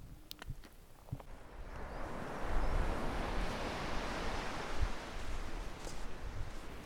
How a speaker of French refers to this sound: Arrivé chez toi en Bretagne, tu te balades sur la plage. Le bruit familier des vagues te calme.